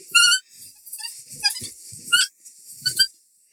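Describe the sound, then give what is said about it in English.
Six baby Nanoxauruses, just run out of a cave, chirp excitedly up and down in a flurry of shrill, whistling squeaks, several short overlapping bursts rising and falling over a few seconds, fairly loud with no talking. “6 baby Nanoxauruses just ran out of the cave. They're chirping up and down excitedly.”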